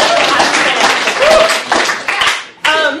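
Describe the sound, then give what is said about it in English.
An audience applauds loudly and steadily for about three seconds, a dense wash of clapping mixed with a few scattered voices, dipping briefly near the end before picking back up. The applause is for technology, after the PowerPoint started working at the start of a talk. “So a round of applause for technology.”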